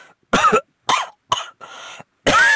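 Five harsh, close coughs come in quick succession with short silent gaps between them, the fourth breathier and more drawn out, the last loud and rasping.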